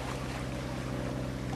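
A small motorboat chugs steadily through water, its low engine drone layered with a constant rushing wash and some wind buffeting, continuous with no voices.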